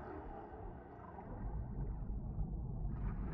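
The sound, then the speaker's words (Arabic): Faint orca calls drift through a heavy, steady underwater rumble in the ocean depths, with no clear individual cries standing out, giving a murky deep-sea feel. “تعيش حيتان الأوركا في عائلات صغيرة، وتتواصل فيما بينها باستخدام لهجاتها الصوتية.”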